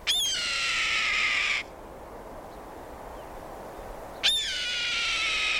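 A red-tailed hawk riding a thermal, a column of warm rising air, gives two loud, hoarse, drawn-out screams that slur downward, each lasting over a second, with a few seconds of quiet between them and no voices.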